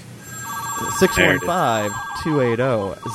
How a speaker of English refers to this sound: I get to use my little ringing phone. Oh, here comes the sounder.